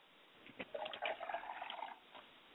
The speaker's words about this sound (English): I like to pour a glass of water for my father spirit, and I say Ashe.